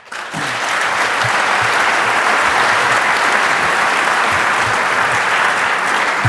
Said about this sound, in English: So let's give another round of applause for our speakers.